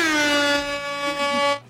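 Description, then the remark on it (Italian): A single sustained horn blast, loud and brassy like an air horn, holding steady for about a second and a half before cutting off abruptly. No one speaks over it. “Oh, trombetta, aspetta.”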